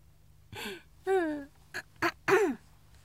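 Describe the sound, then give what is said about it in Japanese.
A voice makes a series of five throat-clearing and coughing sounds: two longer, rasping, voiced ones followed by three short, sharp bursts, with no speech in between, from someone just recovering from a cold with a fever and a sore throat. “病み上がりで咳は出ますがノリノリでございます。”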